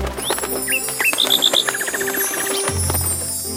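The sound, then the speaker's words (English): Small birds chirp in quick, bright bursts, a cluster of four rapid high tweets in the middle, with soft musical tones and a low hum underneath throughout. “Look at the birds.”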